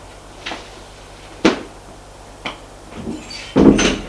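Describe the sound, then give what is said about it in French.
Three evenly spaced knocks on a door by a man, about a second apart, followed by a louder, longer rattle and creak of the door opening, with no voices. “Une porte est entrebâillée qui laisse voir la lumière.”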